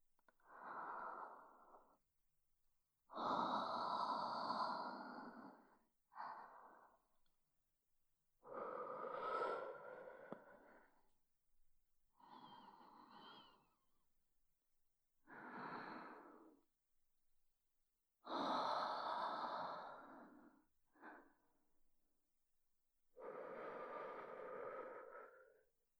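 Slow, heavy breaths exhaled right against the microphone, about eight long airy bursts separated by short pauses, each one breathy and close with no talking.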